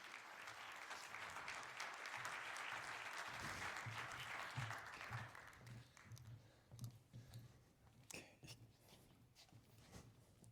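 An audience at a 38C3 conference talk claps steadily for several seconds to welcome the presenters, a dense wash of applause that thins out into scattered, fading claps toward the end.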